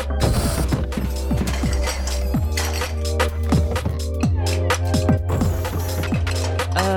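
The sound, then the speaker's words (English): Dishes clatter and clink repeatedly as they're loaded into a dishwasher, a busy run of sharp knocks and chinks over a low mechanical hum, with no talking. “So, show us what you can do. Pack the dishwasher.”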